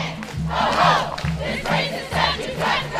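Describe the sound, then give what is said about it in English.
A crowd of angry protesters at a protest over a Confederate statue shouts in rhythmic bursts, roughly every second, with loud chant-like yelling and a low drumming pulse underneath. “Then, as they got closer, more angry protesters.”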